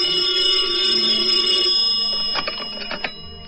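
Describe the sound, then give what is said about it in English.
A telephone bell rings very late at night with a bright, sustained metallic tone, fading out, then a second burst of rapid rattling rings follows. No voices are heard. “One night, very late, I got the frantic phone call from Linda.”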